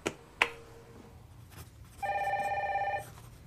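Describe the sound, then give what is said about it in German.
A couple of sharp clicks, then a single one-second burst of an electronic telephone ringing with a fast warbling trill, moderately loud and alone with no voices, as a call is being transferred. “Ich stelle Sie gleich durch zu Conny Knall.”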